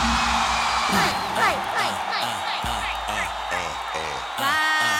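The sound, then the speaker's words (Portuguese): An audience shouts and whoops together in a loud, sustained burst after being asked to shout, many voices overlapping with rising and falling yells over a steady background hum. “Quem acha que ela deu porque ele é safada, dá um grito.”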